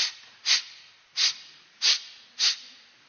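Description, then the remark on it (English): A person makes four loud, exaggerated sniffs in a steady rhythm, each a short sharp intake of breath, with no talking, as if theatrically imitating sniffing something out. “They spend their whole life sniffing.”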